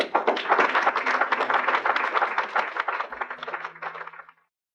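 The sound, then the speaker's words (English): An audience in a film breaks into sustained applause after a speaker's line about segregation, a dense crackle of many hands clapping at once, holding steady for about four seconds before tapering off quickly into silence. “that last line, which prompts the applause, is one of the most quoted lines from the film.”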